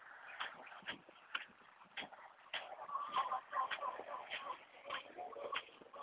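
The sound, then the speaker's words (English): Boots that are no longer waterproof tramp steadily through wet morning grass on a farm past chickens, each step a soft swishing crunch in an even walking rhythm, with faint chirping noises in the background. “My boots are no longer waterproof, so walking through this wet grass is a pain.”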